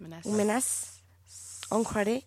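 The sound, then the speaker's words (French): A person makes two long, loud, menacing snake-like hisses, imitating a threatening snake, each blended with a voiced, growling tone, separated by a brief pause. “Une menace. Le serpent qui est menaçant.”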